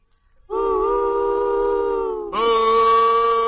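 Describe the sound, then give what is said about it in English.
A train whistle blows one long, loud, steady blast, its chord shifting to a fuller, brighter tone about two-thirds of the way through and holding to the end. No voices. “Blow the whistle and get on the track of Campbell's Pork and Beans.”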